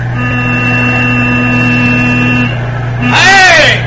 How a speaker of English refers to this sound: Listen. Must be Jackson in his truck.